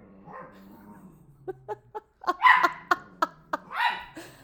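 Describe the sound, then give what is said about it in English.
A small male rescue puppy whines, then lets out a rapid string of sharp barks and yips, ending with a longer, louder bark. No one speaks. “You need to get your son to stop barking, sir.”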